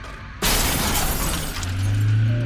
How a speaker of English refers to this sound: The sound of my daughter's screams echoed all around before giving way to the shattering of glass and the loud crunch of deforming metal.